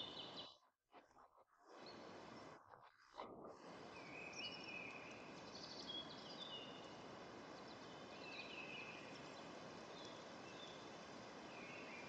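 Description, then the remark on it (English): Faint bird chirps and short calls scattered over a steady, soft rustling hiss of forest ambience, with a brief dip near the start and no voices. “You perceive the field of birds, the creaking of trunks and branches.”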